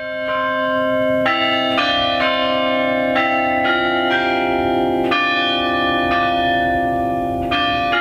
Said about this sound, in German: Der Hauptturm, der bringt es immerhin auf 89 Meter, und neben der Größe macht gerade auch ihr Glockenspiel die Kirche weithin dominant.